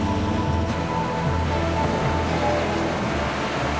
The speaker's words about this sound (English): The Neva splashes through more mud.